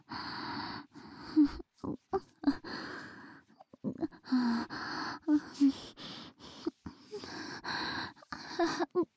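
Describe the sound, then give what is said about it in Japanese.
Heavy, breathy panting right by the ear, a string of quick rough exhales and gasps in an uneven rhythm with brief pauses between bursts, fairly loud and with no words spoken. “めっちゃくしながらマンコ煽るみたいに耳元でハァハァってしてるの、ズンズンって子宮に響いてくる。”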